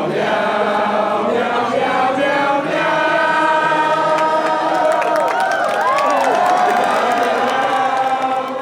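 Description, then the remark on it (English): A crowd of over 400 students at a meowing contest cheers and shouts continuously, a dense wash of many overlapping voices with whoops and yells rising above the steady roar, loud throughout. “Both responded to with cheers and boos.”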